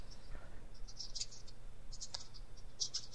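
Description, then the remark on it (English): Quiet, irregular clicking of keys on a computer keyboard as someone types messages on MSN, bursts of quick taps separated by short pauses, over a low background hum with no talking. “He's still typing stuff on MSN.”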